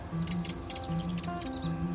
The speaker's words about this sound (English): This bird is on a weekend break from the city.